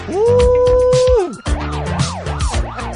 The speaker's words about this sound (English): Woo! Listen to the sirens.